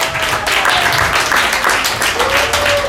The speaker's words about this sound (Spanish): Muchas gracias por la invitación, gracias a todos, fueron un público magnífico. Aplauso para ustedes, por favor, gracias.